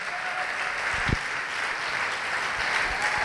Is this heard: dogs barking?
no